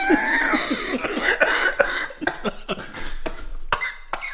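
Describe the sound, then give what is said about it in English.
A person coughs in a series of harsh, irregular bursts, fairly loud, with strained wheezy breaths between them, easing into shorter, sharper coughs toward the end. “I was just coughing my breakfast up.”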